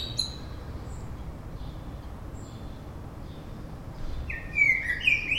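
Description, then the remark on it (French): Thin, high-pitched chirps from nestlings begging for food in Paris, a few faint calls early on, then a louder burst of squeaky cheeping near the end over steady low background rumble. “À chaque fois, ils gazouillent comme si on les avait pas nourris depuis une semaine.”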